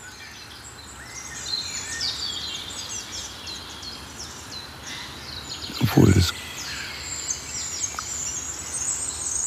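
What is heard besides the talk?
wood warbler song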